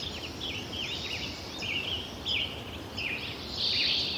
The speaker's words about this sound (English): And the second in 2009, 5 years later. And the bird density is beginning to drop off at this point, partly because of global warming, we think.